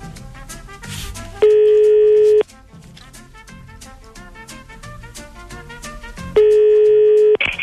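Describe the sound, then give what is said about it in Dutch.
Two loud, steady telephone tones, each lasting about a second and spaced several seconds apart, ring out over continuous background music while a phone number is redialed. “Redial, dat is steeds een klopje.”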